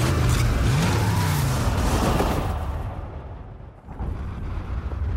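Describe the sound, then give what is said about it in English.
A loud, dense action-movie trailer soundtrack of cars parachuting out of a plane, with roaring, revving car engines and heavy booming blasts, sustained at high intensity with a brief dip before the rumble surges back. No one speaks. “What they're doing is parachuting out of a plane in their cars.”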